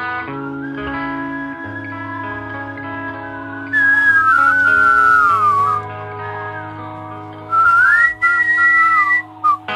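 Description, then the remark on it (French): A whistled melody glides and bends over a steady, sustained musical backing, with bright tonal phrases rising and falling in two main passages and no one talking. “Et les cœurs, sifflés quand même.”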